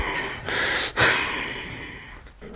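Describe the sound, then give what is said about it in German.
Heavy, breathy panting from a man after swinging a walking cane with both hands in a forceful, fast strike during self-defense training: a few loud, hissing rushes of air, each breath running into the next with short catches between them. No voices. “Also ich habe den Schlag ausgeführt mit Kraft und Schnelligkeit und komme ins Schnaufen.”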